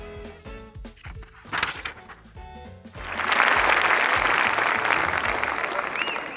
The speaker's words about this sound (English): The audience clapped and cheered.